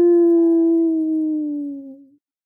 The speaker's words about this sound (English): Somewhere nearby, a coyote howled a long, pleading, "Ar-ar-ar-oo-oo!"